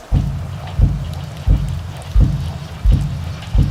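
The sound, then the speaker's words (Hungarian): Steady rain, which began pouring at 4:30 in the morning, hisses down throughout, with heavy, evenly spaced thuds underneath, roughly one every three-quarters of a second, like slow trudging steps through the downpour. “reggel 4:30-kor eleredt az eső.”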